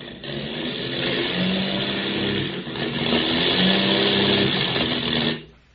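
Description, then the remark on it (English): A failing airplane engine with motor trouble, flying out over the Indian Ocean, drones loudly and roughly, its low pitch wavering and sputtering unevenly for about five seconds before the noise abruptly cuts out. “We've got motor trouble.”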